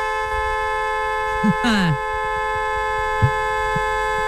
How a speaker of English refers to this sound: And this one I like to call the ignorant horn.